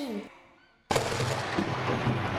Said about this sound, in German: Loset, hört ihr das? Der Himmel ist donnernd. Ein Gewitter. Mitten im Winter.